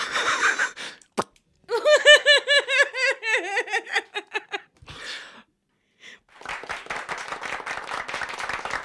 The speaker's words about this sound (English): Just remembered that we had the clap button. Thank you to the cheap audience in here. By cheap, I mean none.